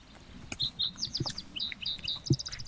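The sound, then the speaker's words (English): Two birds call in a duet, a quick, steady run of bright, high chirps and short whistled notes, over a low rumbling background with a few soft knocks. “I mean, that was pretty because it was a duet. Normally, it just goes on and on.”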